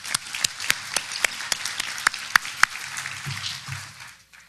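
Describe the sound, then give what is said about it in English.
An audience applauds with dense, steady clapping and a few sharp, louder individual claps standing out, the applause thinning and fading away by the end. “Let me give all of them a round of applause.”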